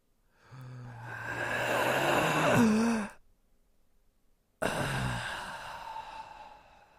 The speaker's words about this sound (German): Dann sagt er so, pass auf, jetzt atme im Takt. Pass auf, komm, wir atmen jetzt mal alle zusammen. Beruhigung. Wir atmen jetzt mal alle zusammen.